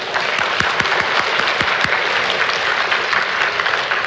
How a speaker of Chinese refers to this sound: 好，这里只是几个例子还有很多别的小组没有办法一一在这里我们为他们鼓掌感谢神好不好？